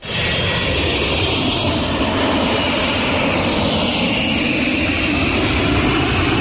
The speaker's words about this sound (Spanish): Igual has tenido que coger alguno para viajar este verano, ¿eh? Es el ruido de un avión. El ruido de un avión, perfecto